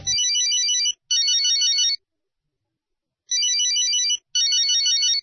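A telephone rings as a call is placed, in a double-burst pattern: two quick trilling rings, a pause, then two more, loud with no voices.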